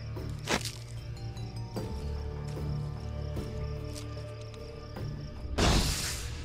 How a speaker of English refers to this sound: A fraction of a second after the mantis strikes, the beetle squirts hot gas and caustic chemicals in its face. The chemicals are produced by a reaction in its abdomen, which generates enough heat to bring the liquid close to boiling point.